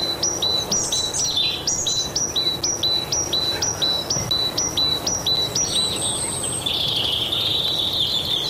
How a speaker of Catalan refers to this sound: Mallarenga carbonera, Parus major. Ocell que habita als boscos totes les estacions de l'any.